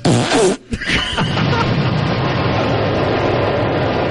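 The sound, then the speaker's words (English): A loud, heavily distorted fart, dubbed the atom bomb, sounding like an explosion blast: a harsh opening burst, a split-second gap, then a sustained crackling, roaring rumble that stays loud to the end, with no voices. “We delivered the bomb. It's like it's filtered through a distortion pedal.”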